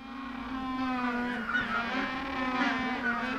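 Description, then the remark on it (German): Penguins on a roof terrace bray nervously ahead of a livestreamed feeding, in a continuous, nasal, honking chorus, their wavering calls overlapping at a steady moderate loudness for a few seconds, with no one speaking. “Trotzdem blöken die Pinguine auf der Dachterrasse schon nervös herum.”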